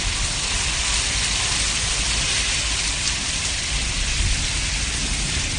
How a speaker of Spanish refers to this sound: En el sur y en el este peninsular, auténticas trombas de agua han seguido bañando las calles de distintos municipios durante toda esta madrugada.